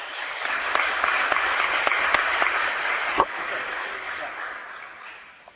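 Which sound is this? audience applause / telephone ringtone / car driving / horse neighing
audience applause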